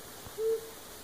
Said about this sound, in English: Flammulated owls do this really soft call. It's almost like they can throw their voice. You think they're way far away, and then surprise, they're in the tree right next to you.